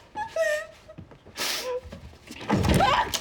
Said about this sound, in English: Jules opens the door to her house.